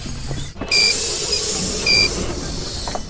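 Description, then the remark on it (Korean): Two short electronic beeps from a transit card reader on a bus or subway in Seoul, spaced about a second apart, ring out clearly over the steady hiss and rumble of the vehicle. “서울에서 버스나 지하철을 타면 언제 어디서든 들을 수 있는 이 소리에 담겨있는 전자정보를 따라서 서울 사람들의 버스와 지하철, 대중교통 생활을 한번 들여다보겠습니다.”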